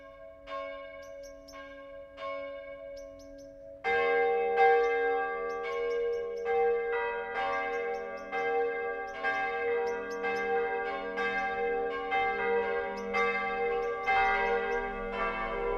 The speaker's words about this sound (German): Es ist 12 Uhr. Das Mittagsläuten kommt heute von der evangelisch-lutherischen Jakobskirche im mittelfränkischen Rothenburg ob der Tauber.